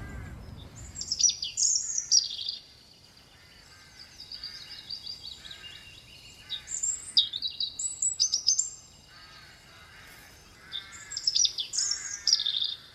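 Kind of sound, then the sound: bird, garden birds singing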